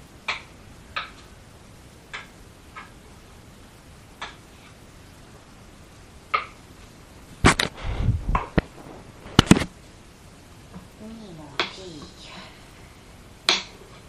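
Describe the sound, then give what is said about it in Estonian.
A knife cuts through potatoes with sharp, irregular clicks against a board, a flurry of quicker chops in the middle, and a brief spoken word. “Kui sellepärast, et teab, mitmed aastat mina neid kartuleid juba lõiganud olen.”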